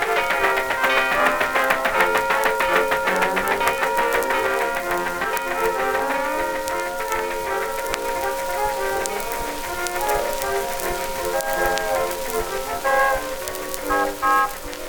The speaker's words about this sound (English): There's my train. Yeah, she comes. Where's my grip? Here, here, boy, that train don't stop. Go along, you.